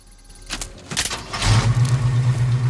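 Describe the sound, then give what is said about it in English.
The engine of a pickup truck that has been broken into cranks over with a couple of sharp clicks, catches, and settles into a loud, steady rumbling idle, with no voices present. “Next, he scans his internal clock, synchronizing it with his wristwatch, before finally starting up the truck.”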